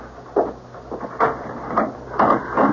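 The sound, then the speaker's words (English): A door is opened, with a handful of short clunks and rattles from the latch and frame, and no voices. “Better, I suppose, to answer the door.”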